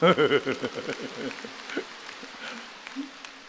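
A burst of crowd applause, loudest at the start and gradually thinning into scattered claps over a few seconds, with voices sounding through the opening moments.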